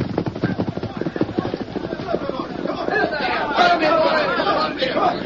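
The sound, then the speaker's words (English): A rapid, steady drumming of many hooves as a sheriff's and marshal's posse gallops together, with a clamor of men shouting over the pounding rhythm, loud and continuous throughout. “Golly, that sounds like an army. Look at the dust they're raising. It's a posse”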